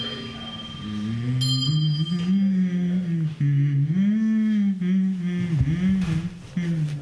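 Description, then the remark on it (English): A single voice hums a bouncy Christmas pop melody for several seconds, steady and fairly loud, its pitch gliding up and down between notes with no words, over a faint constant high tone. “I think I could like hum it.”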